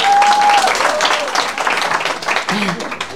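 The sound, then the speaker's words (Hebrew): An audience breaks into loud, steady applause for two young female soldiers, dense overlapping claps filling the whole stretch, with a brief whistle near the start and faint voices mixed into the clapping. “כפיים!”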